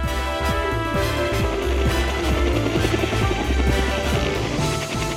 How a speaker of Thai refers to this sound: ขึ้นเฮลิคอปเตอร์ขนาด6ที่นั่งซึ่งถูกออกแบบไว้บินชมภูเขาโดยเฉพาะ